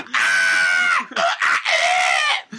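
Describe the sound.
A person imitates a screaming monkey: a loud, shrill, wavering screech lasting about a second, then several shorter piercing shrieks in quick succession, with no talking.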